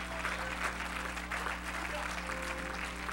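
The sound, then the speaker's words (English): An audience claps their hands in praise of God, in dense, steady applause that stays loud and even for the whole three seconds, with faint voices and a low electrical hum underneath. “If you love God and you're thankful, clap your hands and bless his name.”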